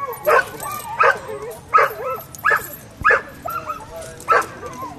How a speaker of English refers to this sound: Hey, guys, here come the dogs. Training days can get pretty noisy.